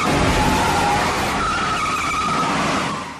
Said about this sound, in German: Der Actionfilm ist brillant inszeniert und die Verfolgungsjagd, in der Gene Hackman im Auto gnadenlos die Hochbahn verfolgt, in der ein Killer fährt, gehört zu den Höhepunkten der Filmgeschichte.